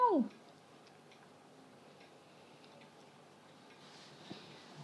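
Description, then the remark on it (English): A tiny female cat named Shinky gives one short meow that slides downward in pitch, then all falls quiet except for faint ticking and low background hiss. “For a tiny little cat, she's got a big mouth, hasn't she? Listen. Meow.”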